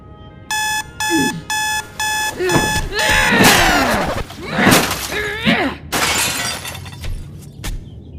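An electronic alarm clock beeps loudly in five quick, evenly spaced bursts on a weekend, followed by a sharp crash like breaking glass and a person's drowsy groaning.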